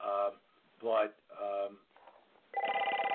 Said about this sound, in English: Whoever's phone is ringing, could you please mute yourself? Yeah, I'm trying to get rid of it. Hold on.